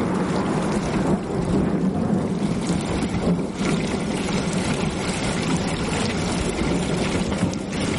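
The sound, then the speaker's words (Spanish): Heavy, torrential rain pours down in a steady, dense roar, loud throughout, with no pauses and no voices. “Llueve torrencialmente.”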